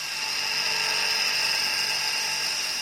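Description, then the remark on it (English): A remote-controlled Tempest mine-clearing machine of about 3.5 tons, with chains and cutters on the front spinning at 1,300 RPM to clear vegetation in a minefield, runs continuously, giving off a steady, loud mechanical roar with a high whining tone, without any talking. “Pullen compares the Yellow Tempest to an angry 3.5-ton lawnmower. What it actually does, it's a remote-controlled machine that actually goes into the minefield.”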